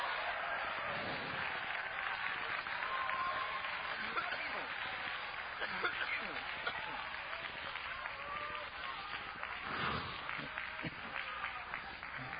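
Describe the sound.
A church audience claps in worship of the Lord, steadily and continuously, a dense, crackling wash of many hands that holds at an even loudness for about twelve seconds, with a murmur of crowd voices mixed in.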